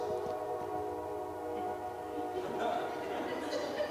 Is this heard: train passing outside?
yes